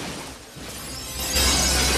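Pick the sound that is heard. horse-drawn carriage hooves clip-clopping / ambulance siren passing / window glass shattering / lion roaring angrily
window glass shattering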